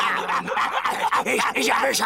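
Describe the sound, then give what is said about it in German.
A dog barks and yaps several times in quick succession, fairly loud, with the barks running together into an agitated, continuous burst. “Dazu müsstest du aber schon ein fliegender Hund sein.”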